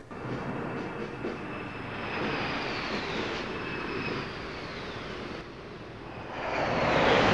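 A broad, steady roar of Yugoslav Air Force fighter jets flying in groups over Tito's funeral procession, with faint high whines sliding across the sound, swelling louder again near the end as another wave approaches. No one speaks.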